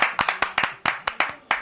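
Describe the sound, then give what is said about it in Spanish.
A short burst of applause played as a sound effect from a sound machine: about a dozen sharp, crisp hand claps in an uneven, quick rhythm, fairly loud, with no voices over it. “No sé por qué no funciona el maquinillo. Iba a aplaudir.”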